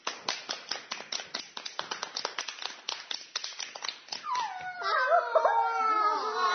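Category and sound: crowd, applause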